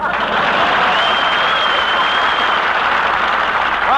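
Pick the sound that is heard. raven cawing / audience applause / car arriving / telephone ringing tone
audience applause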